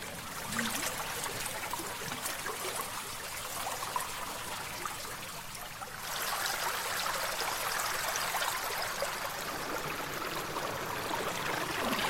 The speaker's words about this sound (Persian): روی ورودی تونل از اونجا آب بیرون میاد. علی توی تونله. از سقف تونل آب پایین میریزه.